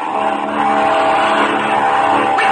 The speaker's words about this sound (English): Suddenly, the roar of a plane overhead is heard, and Ma, Patsy, and Pinky rush out, thinking it's Captain Midnight. Slim stays inside to guard the prisoner. The plane dives over the field, and Pinky cries out.